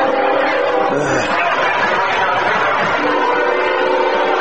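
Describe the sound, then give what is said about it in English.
A CSX freight train roars past through Booster Field, a football field, about 30 yards behind the speakers, a loud, steady rumble and clatter filling the whole stretch, with faint crowd chatter mixed in underneath. “As a CSX flies through Booster Field, sounds like it's running right down the middle of the gridiron.”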